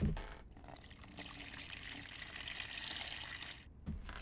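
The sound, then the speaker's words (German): Water pours steadily into a bucket, to be mixed with plaster powder, for a few seconds, a continuous rushing splash with a brief pause near the start and end and no voices. “Guck mal, in diesen Eimer habe ich ein bisschen Wasser gemacht.”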